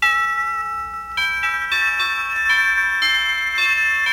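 A doorbell chimes repeatedly, a series of bright, ringing bell tones struck one after another, each note sustaining and overlapping the next, with no voices.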